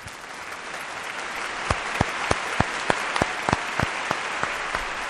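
An audience applauds steadily for about five seconds, a dense wash of clapping with a few sharp, louder individual claps standing out in a quick, regular rhythm.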